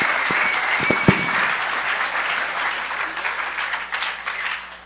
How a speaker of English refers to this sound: Give him a huge round of applause right now and when his talk is over.